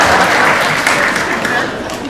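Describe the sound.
A round of applause from a crowd, a dense, crackling wash of many hands clapping that holds steady and fairly loud throughout the short stretch, with a faint murmur of voices mixed in.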